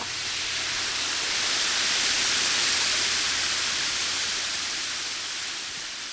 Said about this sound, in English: One trail, which traces around the lake, leads to an immense hand-cut stone dam constructed in the 1940s by the Civilian Conservation Corps. You can walk across the top of it to watch the sparkling water cascade 100 feet down into a ravine far below.